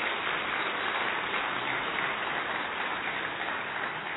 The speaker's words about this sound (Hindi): परम आदरणीय दादी हम सब के लिए बहुत सौभाग्य की बात है आज इस कॉन्फ्रेंस में खुद उपस्थित है। इसके लिए जोर से ताली बजा करके दादी का अभिवादन करें।